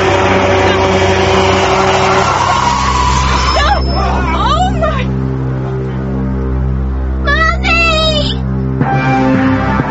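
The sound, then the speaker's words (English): A heavy truck engine rumbles steadily in front of a school in a school zone while high, wavering squeals cut in twice as it brakes and stops just in time, with muffled voices and background chatter mixed underneath. “There's a truck coming.”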